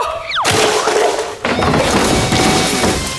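A car door is smashed off one's own car inside a warehouse in a loud, harsh crash: one heavy impact, then a second a second later, followed by sustained clattering, scraping metal and debris noise.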